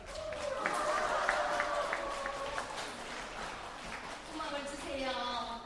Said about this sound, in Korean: 뜨거운 박수 한번 해주시기 바랍니다.